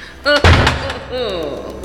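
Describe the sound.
A heavy door in a house slams shut with a single loud, booming impact, trapping people inside, while agitated voices shout just before and after the bang.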